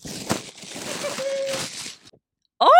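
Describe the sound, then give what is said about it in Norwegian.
Paper crinkles and rustles for about two seconds in a broad, noisy wash with a few sharper crunches as a gift, a pink Jerf Avenue shirt, is unwrapped from its paper, then a short silence before a voice starts speaking. “Nå må jeg bare, jeg skal bare åpne han fra papiret sitt, sånn at ikke det blir så veldig mye lyder her.”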